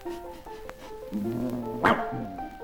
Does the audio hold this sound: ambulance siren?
no